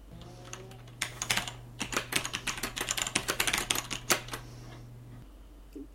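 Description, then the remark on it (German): Crisp clacking of fast typing on a mechanical keyboard whose keys are snapped back by small coil springs, a dense run of sharp keystrokes lasting several seconds over a faint steady hum, then trailing off into quiet. “Dadurch wird das Tippen wieder lauter, ist aber präziser und ermöglicht ein anderes Schreibverhalten.”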